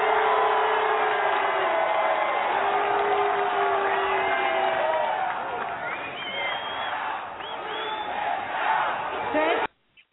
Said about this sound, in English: Okay, so you heard all the boos and the nays. So does that ring any bells? Does that jog your memory a little bit? Look, the chair heard it very well. The ayes had it, the nays didn't.